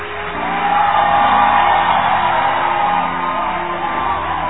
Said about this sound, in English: Now, everybody, I want you to give them a round of applause.